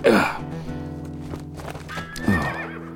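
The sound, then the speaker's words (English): Spooked horses on a ranch neigh loudly, one shrill whinny at the start and another near the end, with sharp stamping hoof knocks in between. “What's spooking the horses?”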